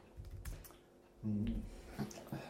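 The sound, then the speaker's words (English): Quick, uneven clicks of someone typing on a Bluetooth keyboard connected to a phone, with a few heavier key thumps mixed into the tapping and no voices. “Yeah, it's a Bluetooth keyboard.”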